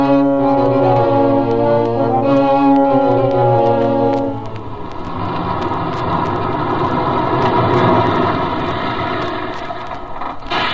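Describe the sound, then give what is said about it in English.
A loud, sustained horn-like chord blares for a few seconds, then gives way to the steady rumble of a bus engine running during a return bus ride back to the city. No one speaks. “Come on, there's a return bus.”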